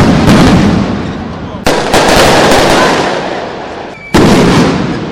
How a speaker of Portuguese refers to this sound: Um protesto contra o aumento da passagem dos ônibus municipais terminou em confronto com a polícia em São Paulo, depois que rojões foram lançados em direção à prefeitura.